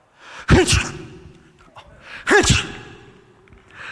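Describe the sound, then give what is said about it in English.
A voice imitates sneezing: two loud mock sneezes about two seconds apart, each a sharp breathy burst with a voiced 'choo', and a softer breath trailing after. “The boy sneezed 7 times.”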